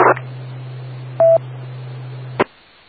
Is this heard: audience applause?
no